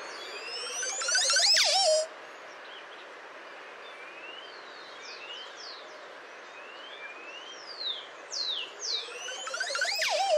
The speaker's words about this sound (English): And the Caribbean to the Montezuma Oropendala.